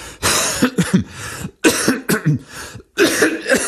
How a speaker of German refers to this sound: Ich lasse einfach mal die Huster drin, so wisst ihr wenigstens, dass ich auch wirklich krank bin. Okay, dazu kommt noch ein bisschen Asthma und jetzt auch noch die ganzen Allergien.